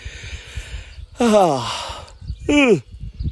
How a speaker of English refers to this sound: Excuse me. Big yawn came on.